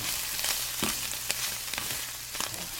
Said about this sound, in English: Well, I've got a chicken with a morel stuffing, and I'm going to saute those on top of the stove right now.